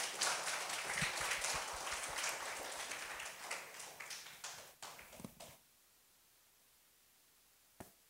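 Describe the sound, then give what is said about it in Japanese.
A crowd applauds with dense, steady clapping that gradually thins and dies away after about five seconds, leaving near silence broken by one lone clap. “拍手感謝します。”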